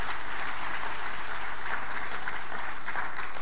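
Sustained audience applause fills the room, a dense, steady wash of many hands clapping at moderate loudness for a few seconds, with no voices standing out.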